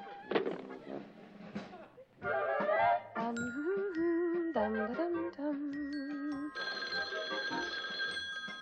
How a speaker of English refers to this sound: can you get the phone for me? Oh, I guess he's not back yet. All right, I'm coming.